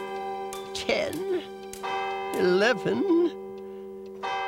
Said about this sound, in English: And sleep he did for exactly 1 hour, when the clock struck 12.